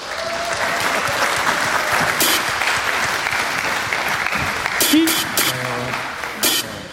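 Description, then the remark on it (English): An audience at a ByteJam live-coding event claps steadily for several seconds, a dense, even wash of many hands, with a few whoops and brief voices cutting through near the end. “Let's applaud and make sure they have to be ready.”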